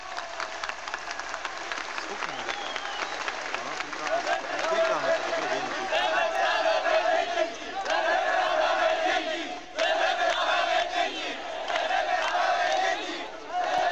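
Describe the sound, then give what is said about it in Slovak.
A large crowd shouts and roars together in a sustained, dense wall of voices, growing louder partway through with a brief dip before surging again. “A DAV reaguje.”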